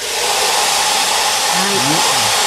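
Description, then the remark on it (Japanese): Two hair dryers roar with a loud, steady rush of blowing air throughout, aimed at a transparent tube covered with small polystyrene foam balls in a static electricity test, with faint voices briefly surfacing beneath the noise toward the end. “はい、すごい風だね、この 2つのドライヤーでね、風を当てております。”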